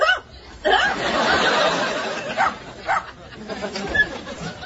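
A dog barks a few times in short, sharp bursts, mixed with a wash of crowd laughter and chuckling that rises and falls around the barks.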